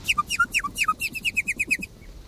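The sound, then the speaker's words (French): A nightingale sings a quick phrase that includes an imitation of a toad's call: a few sliding, whistled notes followed by a rapid, evenly spaced run of about ten sharp repeated chirps, clear, with no voices. “Alors à l'intérieur, on entend un petit cri de crapaud. Dans les imitations de crapauds, ouais.”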